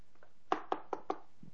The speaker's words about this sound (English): And then a few months later, I get a knock at my door.